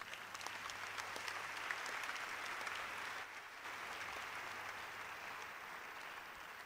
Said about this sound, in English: So that'd have been a good place to clap.